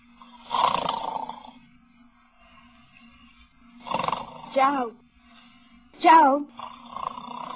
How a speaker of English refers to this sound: You were snoring. Oh, my God. You were snoring loud. Oh, really? I just wanted to quiet you.